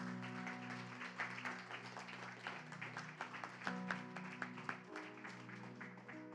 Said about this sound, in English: If you love the Lord, give the Lord a big hand clap.